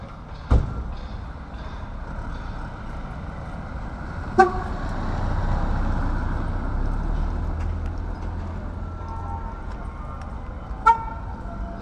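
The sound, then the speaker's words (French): A gas delivery truck sounds its horn tune in the street, short melodic toots rising over a steady rumble of passing traffic, with a few sharp bangs scattered through. “Ce petit événement, mais non, c'est le marchand de gaz.”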